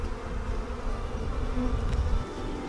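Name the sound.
honeybee swarm buzzing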